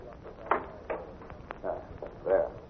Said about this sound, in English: I just want to lock this outside door